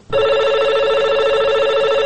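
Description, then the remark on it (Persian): A telephone rings loudly and steadily with a bright, warbling electronic trill that starts abruptly and continues without pause for about two seconds, no voices present. It is an incoming listener call to Radio Azadi's Sorud wa Sokhan call-in programme, from a caller in Mazar-i-Sharif. “بشنوین تماس ها و آهنگ های فرمایشیتان.”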